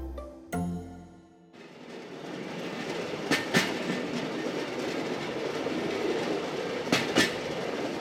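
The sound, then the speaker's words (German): A rail trolley (draisine) rolls steadily along the track, about 9 kilometres past Gravikfjord station, with a continuous rumbling drone, punctuated by two paired clickety-clack knocks as the wheels cross rail joints, fairly loud. “Rund 45 Minuten nach dem Bahnhof Gravikfjord und 9 Kilometer weiter parken mitten auf der Strecke 5-6 Draisinen neben dem Gleis.”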